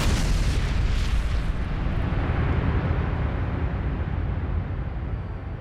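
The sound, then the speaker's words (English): A BQ-8 bomber explodes in midair, heard as a dense, rumbling roar heavy in the low end that holds steady for several seconds, its hissing top slowly fading while the deep rumble continues. “Interviewed from his hospital bed, one Lieutenant McCarthy, flying behind BQ-8 in the chase plane, reported that, quote, "The baby just exploded in midair as we neared it, and I was knocked halfway back into the cockpit.”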